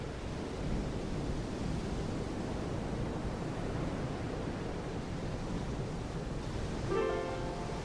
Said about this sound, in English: as the dog and I slow down to a walk and come to a stop, we listen to the sound of the waves and take in the smells and know that we're part of a magnificent California day.